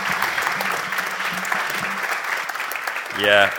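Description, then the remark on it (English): An audience applauds steadily with dense, loud clapping that fills the whole stretch; near the end a voice begins speaking over the fading applause. “Let's do big claps this morning, you know...”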